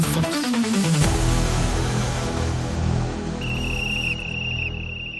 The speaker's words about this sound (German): Die Pfeife ertönt. Ihr wisst, was das bedeutet.